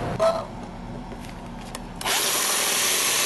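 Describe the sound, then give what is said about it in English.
A power drill bores holes into homemade steel plates, its steady grinding whine running continuously and growing louder and harsher partway through, with no voices. “I've got my homemade steel plates cut, and I'm just about to drill the holes”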